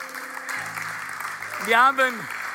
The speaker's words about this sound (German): Am 8. November wird es die nächste Taufe hier in der Festhalle geben. Ist das nicht ein Applaus wert?